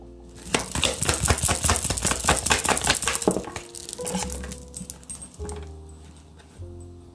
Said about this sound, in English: Okay, then we have keys on a ring.